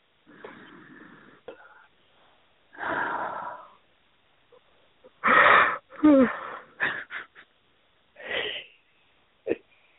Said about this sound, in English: It's working. You're yawning now.